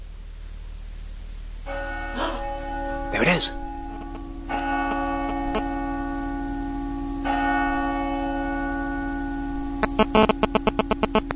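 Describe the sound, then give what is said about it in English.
Church bells toll three times at slow, even intervals, each strike ringing out and sustaining, then a quick flurry of rapid chimes near the end, on an RTE1 television broadcast. A person speaks briefly over the bells. “This is going to be so out of place if they do ring church bells in a minute after having an ad for Ashton Kutcher, Brittany Murphy movie.”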